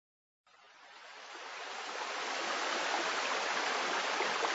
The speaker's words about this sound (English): High in the mountains, they found a stream and a waterfall.